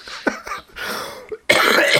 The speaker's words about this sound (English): Excuse me while I cough a second.